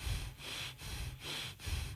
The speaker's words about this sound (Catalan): Aquests serien les respiracions connectades. En fem 20 i ja està.